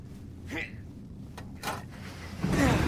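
An elevator door slides open with a few mechanical clunks and scrapes, ending in a louder rushing slide over a low rumbling background.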